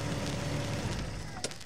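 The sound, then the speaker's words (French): A large car's engine roars steadily on a wide city avenue, a continuous throaty rumble under broad traffic noise, holding its level throughout, with no voices. “Tu sais, quand elles raclent bien là sur les grosses avenues, là, les grosses voitures.”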